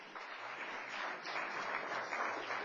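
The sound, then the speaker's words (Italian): Steady audience applause, a dense wash of many hands clapping at an even volume throughout, with no voices standing out. “Applauso.”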